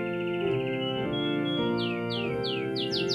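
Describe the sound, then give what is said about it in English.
A real canary named Singspiration chirps in a quick run of bright, downward-sliding notes that speed up toward the end, over a gentle, tinkling music-box melody of the Waits Carol and It Came Upon a Midnight Clear that plays throughout. “And the bird here is a real canary.”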